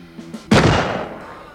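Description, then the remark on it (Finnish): A single loud rifle shot, fired off to one side, cracks out sharply and then rolls off in a long, decaying echo, preceded by a couple of faint, low tonal thumps. “Ammuin syrjään teidän armonne.”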